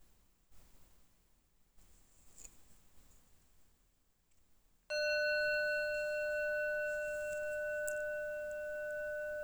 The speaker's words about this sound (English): And again, when you heard the bell, where was your mind? Was it doing nothing? Or was it busy thinking?